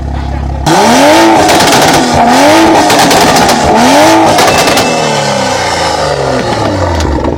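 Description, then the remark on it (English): A Supra sports car engine revs hard three times in a row, the pitch climbing and falling with each loud blip, then settles into a rough, burbling idle with crackles. “Ready to hear the Supra? Yeah. All right. Let's hear it.”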